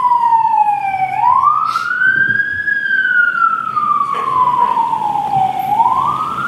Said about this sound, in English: I'm just letting the siren go out.